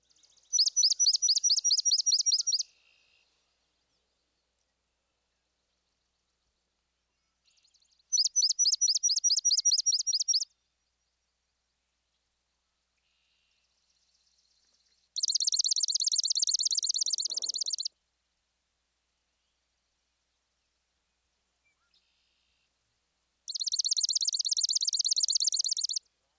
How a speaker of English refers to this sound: Now listen to the two species in close succession. First, both versions of the somewhat reedy swamp sparrow.